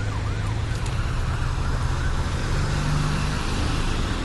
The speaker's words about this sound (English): Here comes a siren.